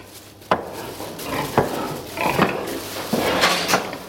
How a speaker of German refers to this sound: Nordirland, Grafschaft Antrim. Ein Schweinemastbetrieb. Das ganze Elend moderner Massentierhaltung. Gestank nach Gülle schon von Weitem, Reihen von langgestreckten Ställen, Baracken ähnlich, in denen sich 14.000 Ferkel und Sauen auf engstem Raum